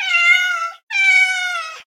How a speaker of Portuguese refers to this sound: Só porque ouviu o miado do gato.